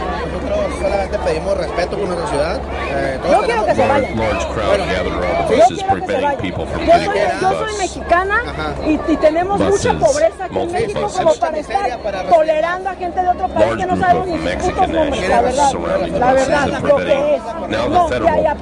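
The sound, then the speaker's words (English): A large crowd of hundreds of protesters outdoors at night, not wanting people to get off a bus, chatters and calls out in a steady, dense babble of overlapping voices, with a constant low hum beneath and no single voice standing out for long. “There's hundreds of people out here tonight not wanting them to get off this bus.”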